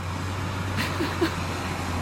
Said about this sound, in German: Ja, ich würde sagen, eindeutig Baustelle. Also eindeutig Berlin, links an der Ecke oder rechts an der Ecke oder nächste Kreuzung. So klingt's.